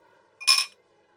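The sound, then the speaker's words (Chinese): A single bright clink of glasses touching in a toast among friends gathered back home for Chinese New Year, one short ringing chime that fades quickly, on its own with no talking. “咱们几个好久没聚了，好不容易过年回家能聚在一起，干杯。”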